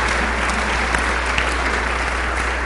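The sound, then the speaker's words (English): A church audience applauds a group of children's Bible teachers and substitutes, a dense wash of many hands clapping together at an even, sustained level throughout, with no voices standing out above it. “Please join me in giving them a round of applause.”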